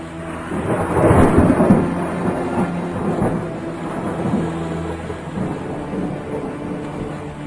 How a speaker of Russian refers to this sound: Действительно, ночью разразился ужасный шторм. Ветер рвал и метал, пароход сильно качало.